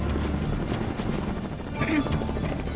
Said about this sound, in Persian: اون بالگرد از اونجا خارج کنیم. تظاهر نکن که چیزی نمیدونی، چون شبکه خبری شما اونو فرستاده.